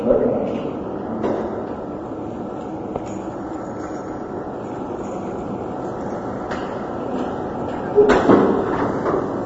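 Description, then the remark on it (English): A door shuts with a single solid thud near the end, rising briefly above a steady, continuous rumble of background noise, with a fainter knock earlier on. “She could hear the door.”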